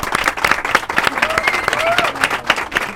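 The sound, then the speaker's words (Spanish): An audience applauds steadily, dense overlapping claps forming a continuous crackling wash for the full three seconds, with a few faint voices or short whoops mixed into the clapping. “La sintonía del programa, un aplauso.”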